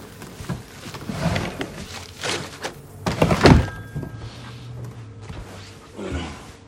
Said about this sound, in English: He places it back in the paper bag and places it in a bedside drawer.